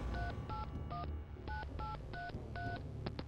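telephone keypad dialing tones

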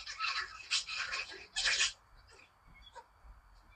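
puppies barking

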